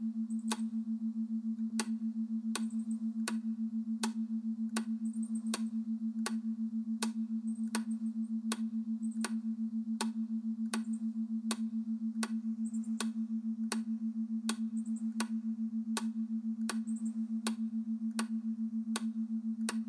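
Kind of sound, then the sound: household object, clock ticking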